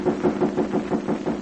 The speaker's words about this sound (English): Suddenly, there are knocks at the door.